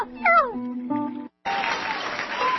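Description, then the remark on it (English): A cat, Whiskers, meows twice in quick succession, clear, then after a brief gap a burst of applause-like crowd noise takes over. “Meow, meow.”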